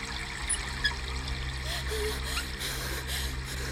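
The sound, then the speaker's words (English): Steady running water from a shower hisses continuously, with a low constant hum underneath and no pauses across the few seconds. “Then, I watched in shock as a black arm reached in through the shower curtain and tried to turn the water off.”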